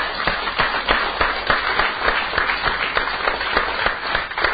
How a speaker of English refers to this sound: And everybody that's received something, I want you to clap your hands.